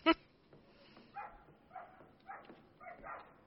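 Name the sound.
dog barking and whimpering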